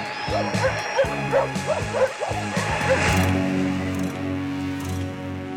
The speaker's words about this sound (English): I'm going to illegally play dogs barking over … tunes to protest the electromagnetic spectrum getting privatized